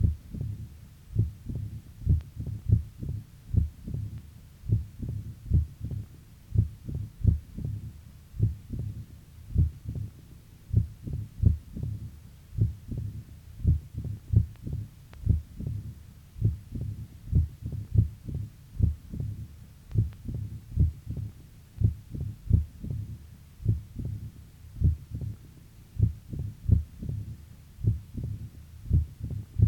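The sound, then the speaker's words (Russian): Stethoscope recording at the first auscultation point of a female patient with mitral stenosis and atrial fibrillation: loud, dull beats at an irregular pace, each followed by a mitral opening snap and a low, rumbling diastolic murmur, the pattern called the quail rhythm; no talking. “Услышанное вами сочетание усиленного первого тона, тона открытия митрального клапана и диастолического шума создает типичную аускультативную картину этого барокко и носит название мелодии или ритма перепела.”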